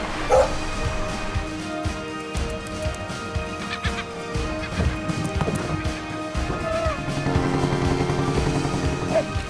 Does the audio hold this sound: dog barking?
yes